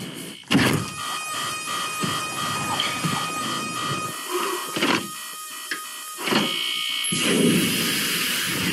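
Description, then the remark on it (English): Several electronic alarms sound at once, steady overlapping tones droning and buzzing, broken up by loud mechanical whooshes and clunks, with a shrill high beep joining near the end. “That's a lot of alarm sounds.”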